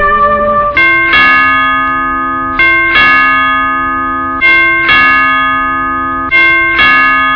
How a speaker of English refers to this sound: Now, who could be leaning on that doorbell? Come in!